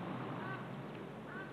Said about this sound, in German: Die Krähe.